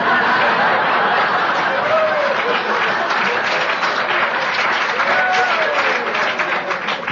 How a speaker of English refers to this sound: I would have preferred not such a strong applause of agreement. Could anyone say, "No, no"?